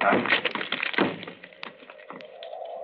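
The locked door of Dr. Roylott's room is forced open: heavy thuds and splintering cracks burst out at the start, then fade into quieter scrapes and a lingering creak.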